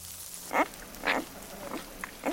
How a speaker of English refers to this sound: Elsewhere, hail pelts a cluster of tiny white flowers.